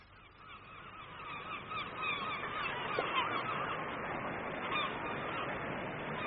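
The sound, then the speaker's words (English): A crowd of birds by the sea calls and honks continuously, overlapping cries layered over a steady, broad wash of noise like surf, holding at a constant level with no one speaking. “There are so many more birds.”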